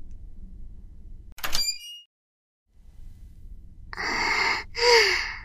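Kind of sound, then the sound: household object, door being opened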